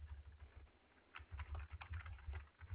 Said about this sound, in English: I'm just typing to my coworker now, because I was also asking about your ticket that was open or like things.